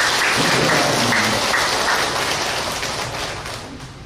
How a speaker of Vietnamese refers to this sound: Các bạn tự hãy dâng cho một tràng vỗ tay thật lớn để tán dương.